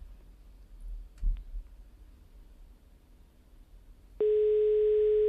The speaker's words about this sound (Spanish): está marcando ese teléfono con esa clase que tiene ella con sus uñas pintadas.